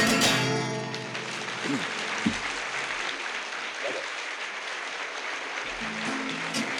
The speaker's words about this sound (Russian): Спасибо, дорогие. Вы знаете, я вам так скажу, я уже об этом говорил. Аплодисменты – это очень приятно. И действительно, это когда так благодарят, да еще поутру, так рано.